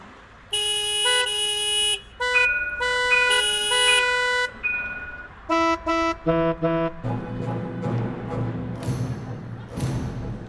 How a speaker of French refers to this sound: Il n'y a pas beaucoup de chemin, mais en 300 mètres, parfois, on a une petite symphonie de klaxon.